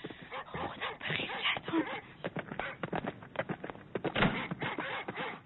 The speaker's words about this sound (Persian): ناله ی سگان، ناله ی سگان. پروردگارا، این ناله ها دلم را چون صحرا گرفتار طوفان کرده.